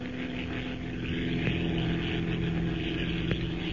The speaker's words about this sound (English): With its twin motors purring in an even, steady rhythm, the gray transport plane slips through the cloudless night sky like some giant bird, leaving the rolling deserts of Arabia behind it and pointing its blunt nose toward Egypt.